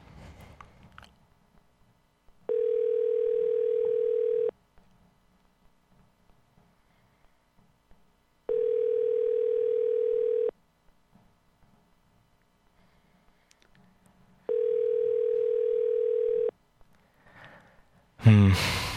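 phone call ringing tone

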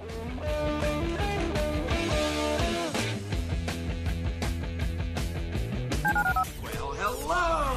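telephone number being dialed

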